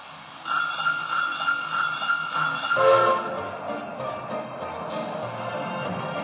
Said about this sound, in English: Look. Here comes the Christmas train. Look, here it comes. The Christmas train is coming.